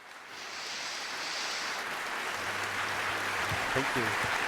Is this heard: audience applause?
yes